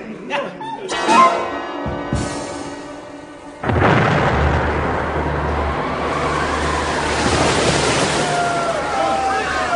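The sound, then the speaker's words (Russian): Brief voices give way to a sudden loud crack of thunder from a nearby lightning strike, followed by a long, heavy rolling rumble that stays strong to the end. “Вот это громыхнуло. Голову даю на отсечение. Где-то поблизости ударила молния.”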